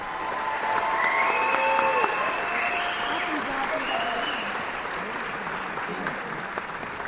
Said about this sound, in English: The name of each graduate was then read to the applause of those in attendance.